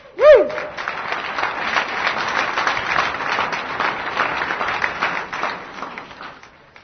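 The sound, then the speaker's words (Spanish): An audience of about 250 people at a marriage seminar claps to welcome first-time attendees, steadily for about six seconds, a dense, even patter of many hands that fades out at the end. A brief high-pitched squeal sounds right at the start. “Vamos a darle un aplauso porque es su bienvenida, ¿verdad?”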